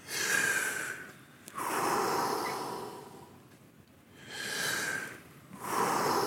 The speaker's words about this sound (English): For that, we do 30 breaths.